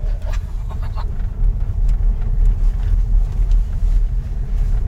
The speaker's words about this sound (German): Man hört so eine Art Summen. Ja. Und wir fahren durchaus über unebenen Boden. Wir werden am Schluss dieses Podcasts mal zeigen, wie das von außen klingt. Aber das, so ist es von innen.